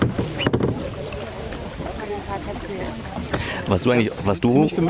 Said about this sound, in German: Da kommt noch ein drittes Boot.